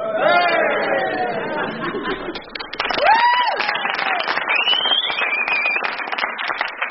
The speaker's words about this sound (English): Aww. One cheer for Lord Bouncy.